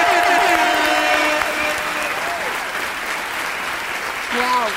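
A crowd gives loud, sustained standing-ovation applause for Audrey Pirot and Jérôme Niel: dense steady clapping punctuated by rising and falling whistles and whoops.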